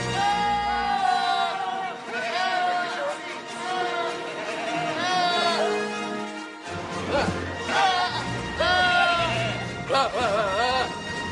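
Goat bleats pitched and strung together into a tune, wavering, vibrato-laden cries following one another continuously, loud, with a low steady backing underneath and a brief break midway.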